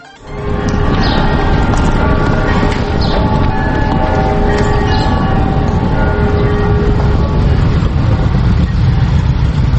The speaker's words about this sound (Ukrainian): Провулками лаври мчать півсотні потужних мотоциклів. Над колоною майорять церковні хоругви, українські та російські державні прапори.